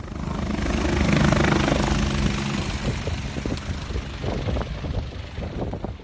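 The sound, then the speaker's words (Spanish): A helicopter's rotor and engine roar builds up, loud, then thumps on steadily with wind buffeting the microphone as the pilot closes the door and it lifts off and climbs toward an active fire. “José, nuestro piloto cierra la puerta y el helicóptero empieza a subir para acercarse al foco activo.”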